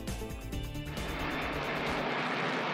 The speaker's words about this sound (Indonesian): Pesawat pengebom B-1 diterbangkan dari Amerika Serikat untuk menyerang 85 target militan yang didukung Iran di Irak dan Suriah pada Jumat.